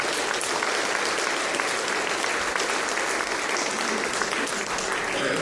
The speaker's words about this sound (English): Thank you. Should we give a round of applause